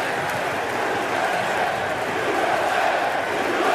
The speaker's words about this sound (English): And as President George W. Bush confidently strode to the top of the mound wearing an FDNY quarter zip to throw out the first pitch, the New York crowd unleashed a loud, cathartic roar.